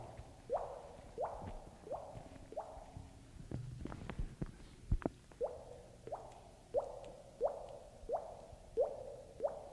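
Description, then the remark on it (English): A leaking faucet drips steadily, one clear plinking drop roughly every second. A few dull clunks and shuffling noises briefly interrupt midway before the even dripping resumes. No one speaks. “Hey, this faucet is leaking over here.”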